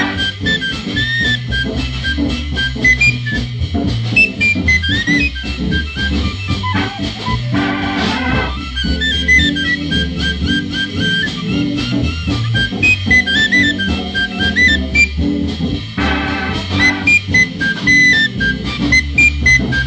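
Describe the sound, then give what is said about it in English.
A bright, high tin whistle melody runs over a steady full-band accompaniment, loud and continuous for the whole stretch, with quick ornamented notes and no singing. “But I found an old tin whistle and found that it tin whistle, and now I tin whistle at you.”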